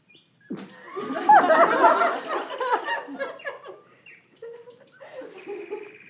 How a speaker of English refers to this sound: Can you hear the birds?